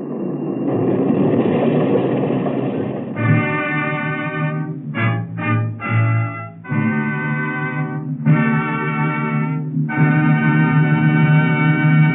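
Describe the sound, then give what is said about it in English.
A streetcar rumbles along as a car is about to crash, then sounds a series of loud, sustained horn blasts in repeated bursts separated by short gaps, with a few quick choppy honks in the middle. “And he can't see the streetcar either. Stop him, man! Stop that car! Oh, he's gonna crash!”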